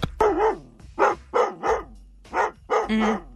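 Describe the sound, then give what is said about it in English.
A dog named Lila barks repeatedly, about six loud, drawn-out barks with a whiny, wavering pitch, some stretched almost into howls, with short pauses between them and no talking. “But now that we've figured it out how to be dog parents, because we weren't really sure that day.”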